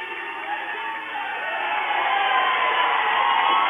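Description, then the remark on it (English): A basketball crowd at a game between Hoonah and Klukwan cheering and shouting, a dense roar that swells louder over a few seconds and stays steady, with whoops rising out of the noise. “You can hear the crowd, though.”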